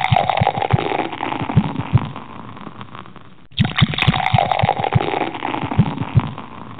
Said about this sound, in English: We did bring back this one. We brought back the classic beer pour.